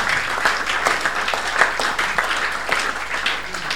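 An audience applauds steadily as a clap of praise to God during a sermon, dense overlapping handclaps forming a continuous loud wash of sound with no voices standing out.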